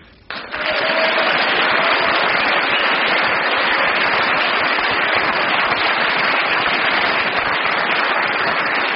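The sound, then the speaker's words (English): An audience breaks into loud, dense applause after a brief pause, the clapping holding steady and unbroken for about eight seconds with no voices over it; the applause is scored, earning 9 points. “Well, you get 9 for your applause”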